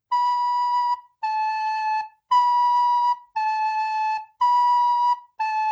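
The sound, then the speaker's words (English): Two neighbouring musical notes, B and A, alternate back and forth: six steady, sustained tones of about a second each, clear and whistle-like, with short gaps between them and no talking. “And I'm going to go from B to A.”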